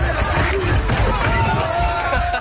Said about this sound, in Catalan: Això que sentim són disturbis a Brussel·les, al centre de Brussel·les, celebracions pel triomf del Marroc, desplegament d'uns 100 agents de policia per controlar la situació.